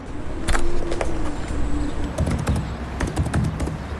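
Irregular bursts of keyboard typing as someone types commands on a security terminal: sharp clicky keystrokes in quick clusters with brief pauses, over a low steady hum. No one speaks.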